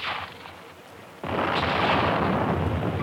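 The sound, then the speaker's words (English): A sea mine, hit by gunfire, explodes: after a fading rumble, a sudden loud blast erupts at about a second in and becomes a sustained, roaring boom lasting several seconds, with no voices. “Nice shooting back there. Well, there's one mine that won't do any more damage.”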